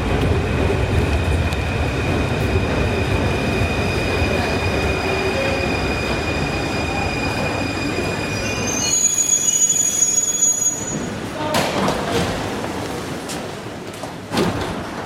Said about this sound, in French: Ouais, il y a le métro qui arrive, alors on va pouvoir continuer.